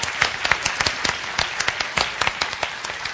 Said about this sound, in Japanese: 大きな拍手してください。